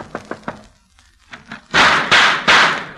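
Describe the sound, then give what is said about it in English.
Three quick, light knocks on the wooden front door of a house at night, a short pause, then three louder, heavier thumping blows in a steady rhythm. No one speaks. “I shall knock on the door.”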